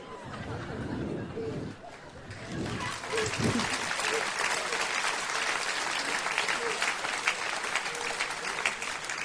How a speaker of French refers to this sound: Oui, vous pouvez applaudir Jésus, parce que Jésus est celui qui a la capacité de dire à vos tempêtes, quelles qu'elles soient, tempête, tais-toi.